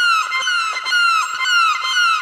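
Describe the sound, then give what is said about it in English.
A man draws a violin bow across an acoustic guitar string; it squeaks and wavers in rising, clucking bursts, imitating a chicken. The scratchy, strained tones repeat several times in loud succession with no voices. “Chicken.”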